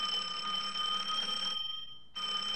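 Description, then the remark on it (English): A shoe phone rings with a steady, high electronic trill that cuts off for about half a second and then starts again. No one speaks over it. “Your shoe is ringing.”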